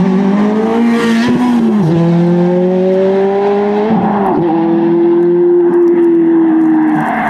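A red Ferrari F430 sports car engine revs loudly, its pitch climbing steadily and dropping at two gear changes as it accelerates. No voices are heard.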